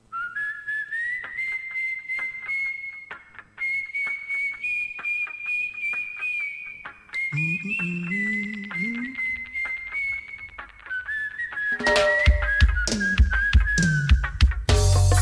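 A song opens with a clear, high whistled melody of long sustained notes, briefly joined by a lower tone midway, before the full band with heavy drums crashes in near the end.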